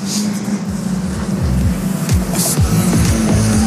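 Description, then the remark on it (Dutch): Race car engines roar steadily on a circuit as cars battle through turns 3 and 4, including a bright green-blue car driven by Van de Ouweland, their pitch climbing and dropping repeatedly as the cars shift gears and pass by, loud throughout with no voices. “Strijd daar in bocht 3-4. Dat gifgroene blauwe autootje, die wordt bestuurd door Van de Ouweland.”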